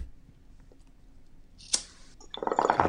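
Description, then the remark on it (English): A sharp click and a burst of airy hiss give way to a rising, gurgling bubble from a bong hit, growing louder and more rapid over the final second. “Oh, this is what an English bong rip sounds fart?”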